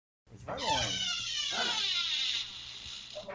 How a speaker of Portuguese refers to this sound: Essa porta tá saindo no áudio, cara. Não, o cachorro entrou aqui, eu fechei a porta e botei ele lá fora.